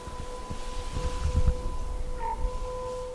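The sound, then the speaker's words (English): An emergency warning siren, sounding in a test, holds a faint, steady tone off in the distance throughout, from the Bayview Estates area (Hungerford Hill, Scow Bay area) a couple miles south of town, swelling briefly near the end, over a low rumbling background with no voices. “Off in the distance, we hear a siren.”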